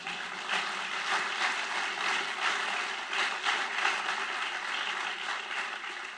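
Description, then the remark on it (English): Sustained applause from a sizable audience at Purdue fills the whole stretch, a dense, even patter of many hands clapping at steady volume with no voices breaking through. “You've got to clap for that.”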